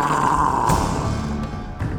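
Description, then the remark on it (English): A man lets out a low, rasping growl at a guard while pointing his staff at him, loud for about two seconds, rough and menacing, with no words. “pointed his staff at the guard and growled.”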